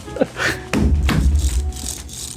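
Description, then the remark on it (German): A keyboard rattles in a few quick, clattery bursts of loose keys over a low rumbling hum, with no one speaking. “habe meinen Penis auf der Tastatur hin und her gegriffen.”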